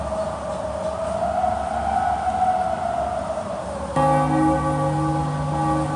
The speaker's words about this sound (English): The bells.